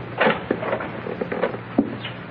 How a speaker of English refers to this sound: He's coming back, boss. He's opening the door.